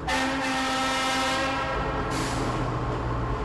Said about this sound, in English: I'm standing at the entrance to the western section of the Inland Feeder Tunnel. I'm about to get on a train that's going to take me 2.5 miles underneath the ground.